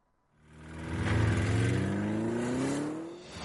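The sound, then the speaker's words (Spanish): A car engine roars to life and revs up, its pitch climbing steadily over a few seconds, loud with no voices. “Audi Retail Madrid vuelve con los motores encendidos.”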